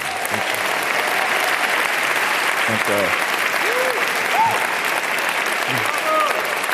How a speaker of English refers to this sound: Give another round of applause to Shaka Singh.